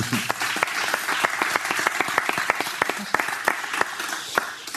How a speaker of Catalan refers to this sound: Un aplaudiment per ell.